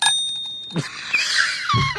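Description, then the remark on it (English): A timer rings with a bright, sustained metallic tone, then gives way to a louder, jangling, shimmering clatter for the rest of the two seconds. No one speaks. “What are you doing? That's the timer.”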